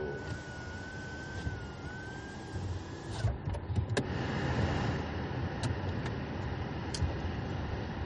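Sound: car interior noise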